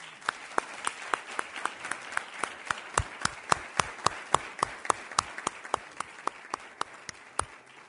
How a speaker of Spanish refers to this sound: Y al igual que todo el equipo y su cuerpo técnico, creo que se merecen nuestro fuerte aplauso.